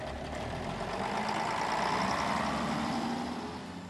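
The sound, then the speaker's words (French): A bus engine idles steadily, a continuous low rumble with a faint mechanical hum that holds even throughout, with no voices or other sounds. “Le matin du départ, nous entrons dans le bus du père Racalin”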